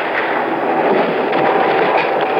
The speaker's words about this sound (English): The gunshots continue.